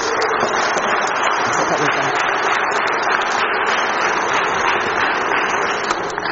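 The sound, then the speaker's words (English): A crowd applauds volunteers steadily for several seconds, a dense, continuous wash of many hands clapping at once, fairly loud, with no pause until it fades slightly at the end. “Let's have a round of applause for volunteers, please.”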